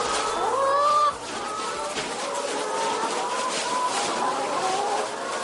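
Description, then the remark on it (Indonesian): A dense chorus of chickens kept in battery cages on a poultry farm, clucking and squawking together, steady and fairly loud throughout, with overlapping calls suggesting many birds packed together. “teman-temannya yang juga peternak ayam memperkenalkannya pada sistem ternak ayam menggunakan kandang baterai.”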